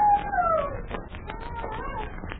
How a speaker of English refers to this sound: Yes, I hear it. It's a howling dog. Well, it adds atmosphere, doesn't it? I say it does. It also adds goose pimples. The howling dog seems to come from over near that lone pine.